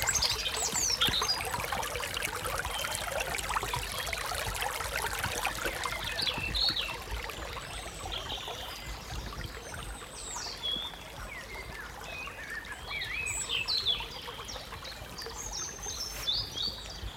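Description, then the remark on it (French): River water trickles and babbles steadily throughout beside a river in Côte d'Armor, with scattered bird chirps and calls rising above it now and then. No one speaks. “À côté de la rivière.”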